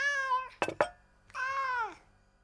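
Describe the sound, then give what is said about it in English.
A starving cat meows twice, clear, each cry long and drawn out, the second sliding downward at the end, with two quick sharp taps in between. “the cat's starving.”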